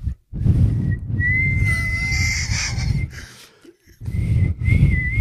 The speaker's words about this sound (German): Kannst du pfeifen? Also so mit den Fingern pfeifen? Ja. Also so aus dem... Hier.